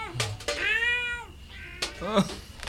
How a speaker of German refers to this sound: Oh. Nur eine Katze.